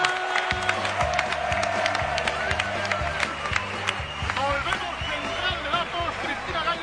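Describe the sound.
A crowd bursts into sustained applause and cheering, dense clapping holding steady throughout, with a regular low thumping beat running underneath and scattered voices mixed in.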